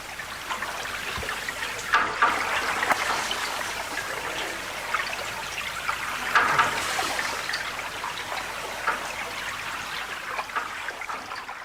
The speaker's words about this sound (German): Wasserklänge aus dem Bodensee im alles andere als leisen öffentlichen Raum von Bregenz eigentlich begrüßt werden sollen.